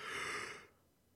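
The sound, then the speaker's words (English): A single breathy yawn, a soft airy exhale lasting about half a second before trailing off into quiet. No one speaks. “Of are you yawning?”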